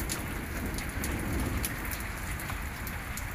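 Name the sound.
thunderstorm with rain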